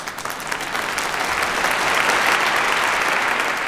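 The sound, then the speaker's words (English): A played applause sound effect: a steady burst of crowd applause, dense and continuous clapping that stays loud and even for a few seconds with no voices over it. “We'll try not to talk over our applause.”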